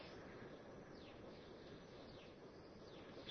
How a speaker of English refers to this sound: The trees are already green and the roses have flowers. And the birds are calling.